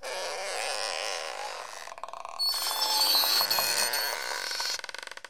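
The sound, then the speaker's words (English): Doors creak in two long, rough, grinding groans, the second rising into a thin high squeal before breaking into a quick run of rattling clicks at the end. “9 doors a creaking.”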